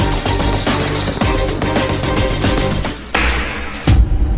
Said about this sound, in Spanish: Creo que escucho sus pisadas.